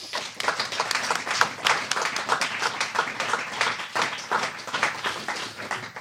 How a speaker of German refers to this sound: Und einen warmen Applaus